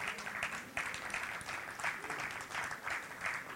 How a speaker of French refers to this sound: Non, ben, il arrive tranquillement, donc vous pouvez l'applaudir